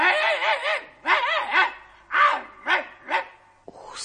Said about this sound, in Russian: Нет! Это был железный сундучок, из которого вылезла змея, как только я открыл крышку. Пес хотел броситься на нее.